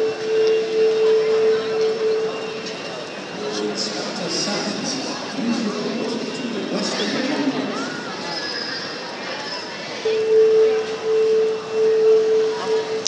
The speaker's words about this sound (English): Testing the PA system by the sounds of things. Inspector Sands, they're asking for.